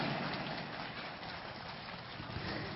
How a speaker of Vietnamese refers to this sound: Xin toàn thể các quý Phật tử dâng cao tràng pháo tay để chia sẻ niềm vui trong buổi Phật đản này.